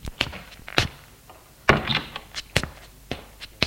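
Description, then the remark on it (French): A door off a first-floor corridor being opened into a pale blue bedroom: a few sharp latch clicks and knocks, then a heavier thunk as it swings, followed by scattered light taps and creaks. “Ouvre une porte.”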